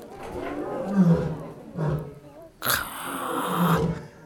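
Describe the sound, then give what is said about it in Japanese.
A lioness in the neighbouring cage roars in deep, throaty bursts, several calls in a row, the last one longer and louder, with some crowd or ambient noise in the background. “うわ今隣の檻のメスライオンが吠えてますよ。”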